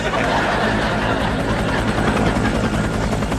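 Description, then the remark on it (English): A rescue helicopter's loud, steady rotor thump and engine roar fill the whole stretch, continuous, with rapid rhythmic chopping and no voices; it is there to airlift passengers out. “I have just been informed that a rescue helicopter is available to airlift a few passengers out.”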